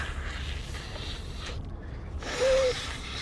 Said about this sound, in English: Hold on. You'll have to pardon me. I got to blow my nose again.